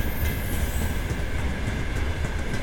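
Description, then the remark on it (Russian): Empty freight-train flatcars roll past without cargo in a steady, dense rumble, with a low hum and a faint high metallic whine running over the top and no voices. “Замечательно звучат платформы. Звучат замечательно просто несущиеся без груза.”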